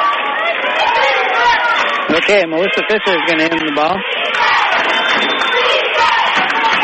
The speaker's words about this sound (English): I think we have more Angoon fans here than we do Hoona fans, or at least it sounds like it. But the Hoona fans are cheering pretty loud, too.